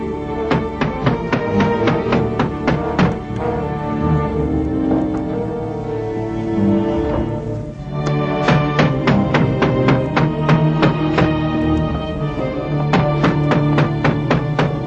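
Repeated sharp knocks on a door come in loud, insistent bursts, pausing briefly in the middle before resuming with rapid, forceful raps over a dense, steady background.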